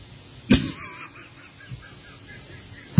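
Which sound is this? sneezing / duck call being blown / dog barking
duck call being blown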